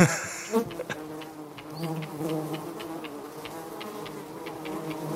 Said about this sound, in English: But when the wind settles down and you think you can start to work, the mosquito comes, like a black storm. The mosquitoes there are really, really big. It is a nightmare to avoid the mosquitoes, and so I hate mosquitoes.